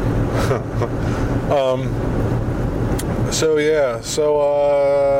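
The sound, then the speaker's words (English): Steady low rumble of a car's interior while driving, a constant engine and road drone filling the whole recording, with a person talking over it in short bursts. “Also, yeah, this is going to be one of those in-my-car episodes.”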